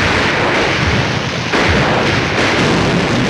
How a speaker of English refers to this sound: As explosions send billows of smoke into the air, Alvin hustles past men shooting back at the Germans. Two bombs hit the ground, knocking nearby soldiers off their feet.